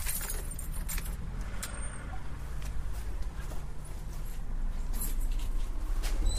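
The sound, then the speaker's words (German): Keys jangle and scrape in a lock as the building manager unlocks the back entrance door of the old Apollo cinema, with several bright metallic clicks and rattles, over a steady low rumble of background traffic, with no one speaking. “Der Hausverwalter schließt uns gerade die Tür auf.”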